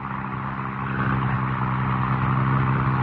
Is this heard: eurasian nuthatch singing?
no